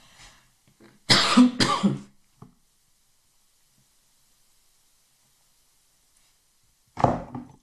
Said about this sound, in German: Ich kann dir aber versichern, dass ich ganz gesund bin. Das war nur ein klitzekleiner Frosch in meinem Halse.